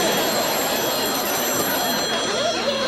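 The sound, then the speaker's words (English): A telephone rings steadily and fairly loudly for a few seconds over a dense wash of background noise, with no one speaking. “Edith scurries to the phone.”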